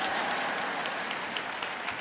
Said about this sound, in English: Come on. Well, you ain't clapping for that as loud as you ought to.